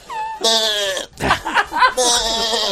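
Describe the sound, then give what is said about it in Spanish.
Someone imitates a sheep's bleat: a loud series of wavering, nasal baa-like cries with shaky vibrato, broken by a brief breathy pause midway. “Oveja.”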